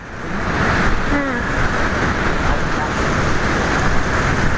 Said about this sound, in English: Is there people out on a boat or is it the beach? The ocean.